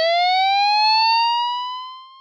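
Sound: tsunami warning siren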